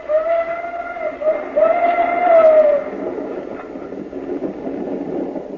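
A steam train of an engine and two cars sounds its whistle for a few seconds, wavering and then trailing off, before the steady rumble of the train rolling along the tracks carries on, moderately loud.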